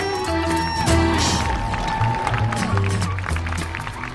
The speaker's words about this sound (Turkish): Duydunuz alkışın sesini, başlıyor Hoş Sohbet Sokağı.